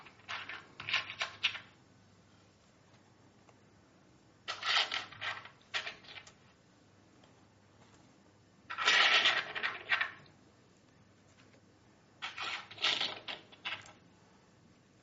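Two coins are slipped into a small pouch, with crinkly rustling and faint clinks coming in four short bursts separated by quiet pauses. No one speaks.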